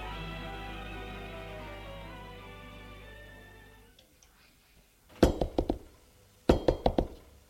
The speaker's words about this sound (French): L'on a frappé à la porte